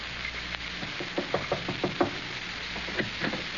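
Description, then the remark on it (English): A quick run of knocks on a door in a house, about half a dozen raps in a steady rhythm, followed after a short pause by a few more. Moderately loud, with no voices. “Opportunity never stops knocking in this house.”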